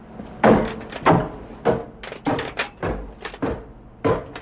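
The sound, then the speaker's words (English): A door being opened by Robert before he creeps up the stairs, heard as a series of sharp knocks and clunks, roughly six bursts spaced unevenly over a few seconds, with no one speaking. “Robert opened the door and crept up the stairs.”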